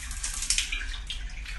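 Shower water runs in a steady, continuous hiss, moderately loud, with no voices over it, as someone takes a shower after coming home from work.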